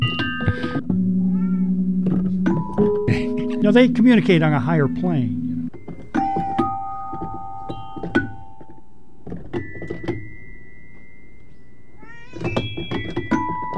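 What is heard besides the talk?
cat meowing and purring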